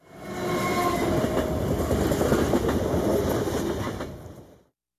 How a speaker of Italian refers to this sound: You read... Un treno, un aeroplano. You say... È un treno.